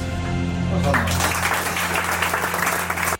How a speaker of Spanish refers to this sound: Aplausos ahí para el Chopo, que cuando habla, por supuesto, hay que escuchar.